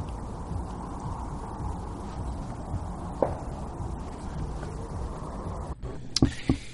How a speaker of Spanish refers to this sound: la grabamos en el exterior de un búnker. Y lo que se escucha son unos disparos.